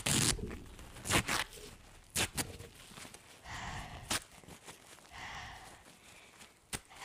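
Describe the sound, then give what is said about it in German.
Crisp paper rustling and crinkling in irregular bursts, with several sharp crackles spread across a few seconds and quieter handling in between; no voices. “Oh, halt die Fresse, du dummes Papier. Wir müssen leise sein.”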